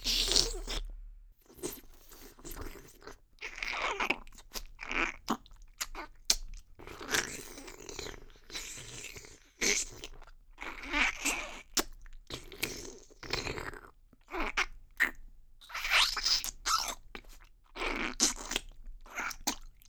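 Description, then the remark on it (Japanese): Crisp crunching and chewing, repeated in irregular bursts of munching with brief pauses between bites, loud and intimate with no talking. “全部食べてあげるから安心してもぐもぐされなさい。”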